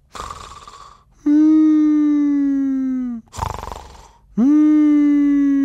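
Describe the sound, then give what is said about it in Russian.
A voice imitates a sleeping man's snoring: two cycles of a raspy, breathy inhale followed by a long, loud, plaintive whining tone that slowly sags in pitch, alone, with no talking. “потом дяде Юлиусу приснился, видимо, кошмар, потому что его храп стал звучать так жалобно”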